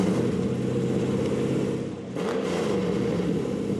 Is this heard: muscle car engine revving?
yes